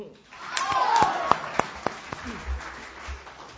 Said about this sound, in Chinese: 从观众热烈的掌声，我们可以发现，我们对这样的相声是多么的喜欢啊！